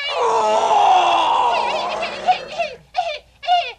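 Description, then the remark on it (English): A voice imitates a tiger growl: a long, strained roaring groan lasting about two seconds, followed by three short, sharp growling bursts that rise and fall in pitch. “What was that, my captain? A unique eating tiger.”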